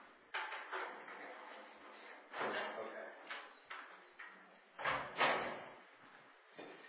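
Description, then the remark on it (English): A door is unlocked and shut: a series of sharp clunks and rattles from the latch and handle, ending in a couple of louder thuds as it closes. “Unlock this door. So that we can close it.”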